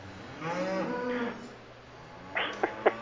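A cow lets out one drawn-out, wavering moo lasting about a second, followed after a pause by three quick, sharp knocking or clattering sounds.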